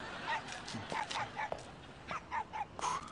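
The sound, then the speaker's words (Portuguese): Five dogs barking in a quick, uneven string of about eight short, sharp yaps, mid-pitched and fairly loud, over a low, muddy background hum. “Tenho 5 cachorros.”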